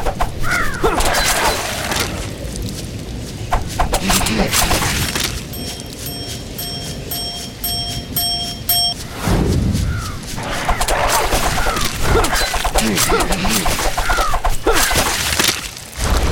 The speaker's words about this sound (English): Graveyard. So... There's a new enemy introduced in the graveyard. It is a zombie bird.